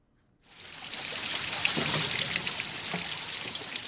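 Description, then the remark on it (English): Spring water from Table Mountain flows and trickles steadily through grey metal pipes at Spring Road in Newlands, Cape Town, during a drought: a continuous hiss of running water with a few brief gurgling splashes, starting suddenly after a short silence; no one speaks. “Despite the drought, the spring water hasn't stopped flowing down nearby Table Mountain.”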